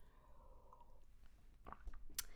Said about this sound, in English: Pardon me while I take a sip of tea.